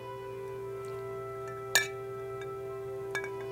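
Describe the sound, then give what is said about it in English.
A bright glass clink rings out once, then a second, softer tap follows about a second and a half later, both over a steady electrical hum with no voices. “Wait, give me one more cheers.”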